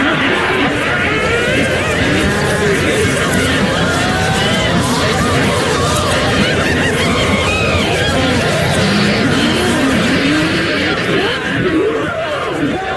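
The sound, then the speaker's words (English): A crowd of about 100 women, banshees at a feast in a grand dining room, chatters loudly and without pause, a dense wall of overlapping voices broken by high shrieks and cackling laughter rising out of the din. “Here the raucous cackling, shrieking and chattering of 100-odd women filled the air to the rafters.”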